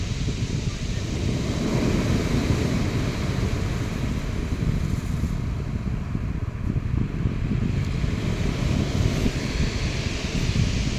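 Steady roar of wind and breaking sea waves on a beach, loud and continuous throughout, with heavy low rumbling gusts buffeting the microphone and no clear voices.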